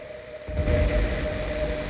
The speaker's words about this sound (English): Lying on the sofa in her flat, she picks up a remote control and turns off her TV, which is showing only a screen full of static.